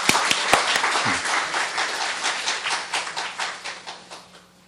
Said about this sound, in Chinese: 好，我哋一齊鼓掌。